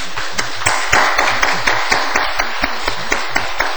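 An audience applauds in welcome, a dense, steady wash of many hands clapping with sharper individual claps landing at a fairly regular rhythm, fairly loud throughout and without any talking.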